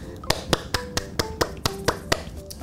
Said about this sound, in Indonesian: Kita tepuk tangan lagi yuk buat hakim dan pengacara yang ada di luar sana.